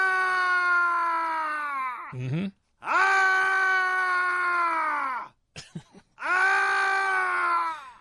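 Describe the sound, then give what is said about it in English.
A man lets out three long, loud, drawn-out screams, each sliding downward in pitch as it trails off, with brief gasping grunts between them; a horror sound effect, the track Screams (Man) from the Scary Sounds sound effects CD. “This is Screams, parentheses, Man.”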